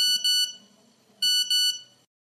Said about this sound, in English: Incoming call, sir.